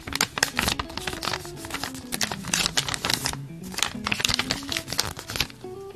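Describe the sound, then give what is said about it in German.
A sheet of paper is folded three times, with crisp crinkling and rustling in repeated bursts across several seconds, fairly loud and continuous, with no other sounds around it. “Jetzt habe ich ein Blatt Papier dreimal gefaltet.”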